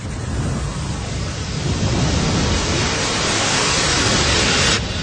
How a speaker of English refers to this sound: What the monitoring stations picked up were some of the largest infrasonic waves ever recorded. Here they've been modified to make them audible.